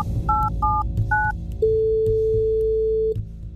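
Three quick dual-pitched telephone keypad beeps as a call is placed, then a single long steady ringing tone lasting about a second and a half, clear and fairly loud over a low background hum, with no talking.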